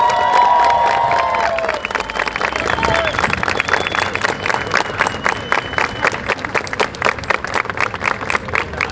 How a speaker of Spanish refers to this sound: Un aplauso para mi querida compañera.